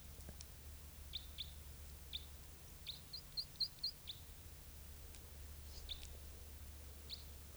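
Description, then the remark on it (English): A bird gives short, high chirping calls in scattered bursts, with a quick run of bright notes in the middle, over a steady low hum. “Here's that bird.”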